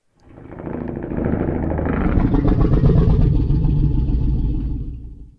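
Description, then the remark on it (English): A deep, rumbling Godzilla growl built from slowed-down, layered sounds swells in over a second and holds loud and steady, with a gritty, churning low roar before fading at the end. “So finally, here it is, slowed down and layered as you described, to create once again the Godzilla growl.”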